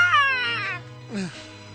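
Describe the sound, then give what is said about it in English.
A cat that has just been stepped on lets out a drawn-out, strained yowl of pain, then a shorter cry sliding downward in pitch, fairly loud over a low steady hum. “Poor kitty.”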